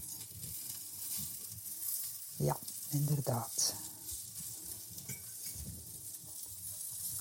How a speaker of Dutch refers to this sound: Ik zal nu eerst kijken naar mijn amandelkrokantjes, want ik zie en ik voel en ik ruik dat die beginnen te bakken. Dus ik zal ze een keer moeten draaien.